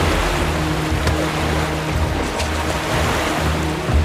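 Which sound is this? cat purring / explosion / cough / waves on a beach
waves on a beach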